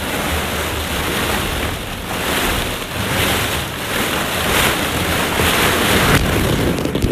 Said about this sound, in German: Und dann, ihr werdet gleich schöne Sounds hören, wie ich nur mit Socken durch ein Bällebad laufe. Hört mal rein. Das ist wirklich was ganz Feines für Liebhaber, ja.